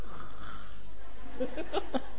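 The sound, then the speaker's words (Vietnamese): A voice imitates snoring: a rough, throaty rasp that builds into several short, choppy voiced bursts near the end, fairly loud, with no other talking. “Trời ơi, sư giảng âm thanh như sư tử rống đó, mà ngủ được mới hay chứ, mà ngáy nữa chứ, ngủ mà ngáy nữa, giữa đông người mà ngáy khò khò đó.”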